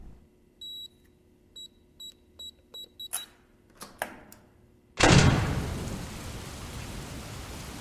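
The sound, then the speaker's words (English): A string of short electronic beeps and a few mechanical clunks, then a sudden loud burst of thunder breaks into a steady, heavy rush of rain that continues to the end. No one speaks. “Great, now it's raining.”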